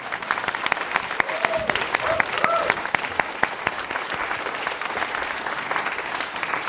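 Sustained applause from an audience, many hands clapping in a dense, steady patter throughout, with a few brief whoops rising above it early on.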